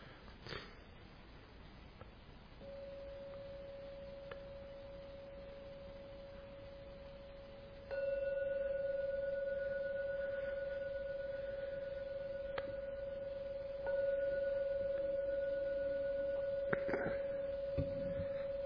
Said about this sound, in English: I'm bowing the gong 3 times.